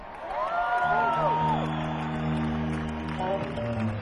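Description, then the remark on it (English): Steady audience applause and cheering at a live concert after band members are introduced fill the whole stretch, with a rising whoop early on, all layered over sustained, ringing notes from a band of bass, drums and guitar holding a chord. “And on the guitar and vocals, for the past 18 years of my band, ladies and gentlemen, please give a round of applause for Mr.”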